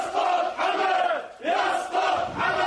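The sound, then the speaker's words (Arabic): A large crowd at a popular march in Bahrain, marking the tenth anniversary of the 14 February 2011 revolution, chants slogans in unison, loud rhythmic collective shouting rising and falling in waves, with a brief dip before the chant surges again. “رغم الإجراءات الأمنية المشددة لمواجهة الاستعدادات الشعبية لإحياء الذكرى، تمكنت الجماهير من الخروج في تظاهرات عامة ويدرات وجزيرة سترة وكرباباد وعالي، ووصلت إلى العاصمة المنامة مرددين شعارات تشدد على الاستمرار بالحركة الشعبية”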